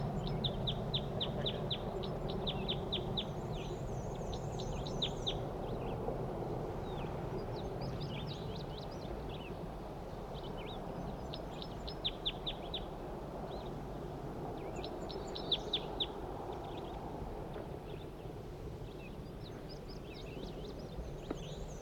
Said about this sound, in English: calls a wild bird. Male.